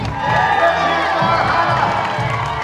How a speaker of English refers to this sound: During her winner's welcome, she walked up Bridge Street, lined with supporters clapping and cheering.